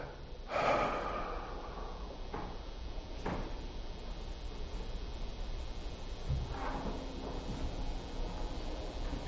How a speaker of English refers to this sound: So we're going to exhale, and then I'm going to count 15 maybe. And don't do this beyond what you're able or you're comfortable, but let's give it a try, okay?